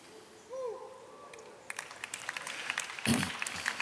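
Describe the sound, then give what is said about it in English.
Scattered hand claps begin after a brief low, gliding tone, then build into a fuller burst of audience applause that continues with uneven, crackling claps to the end. “You don't have to clap. I don't mind.”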